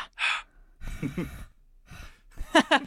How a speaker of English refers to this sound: And something we always do is we give people air from our lungs. Would you like to help us give people air from your lungs? Which is just breathing into your microphone, basically. So we give you air from our lungs.